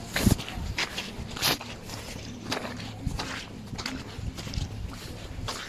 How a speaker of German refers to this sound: Bei jedem Schritt über den Dorfplatz sanken unsere Füße tief in den Schlamm ein.